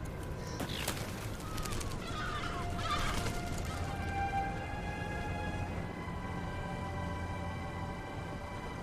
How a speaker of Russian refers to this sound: Но там только птицы.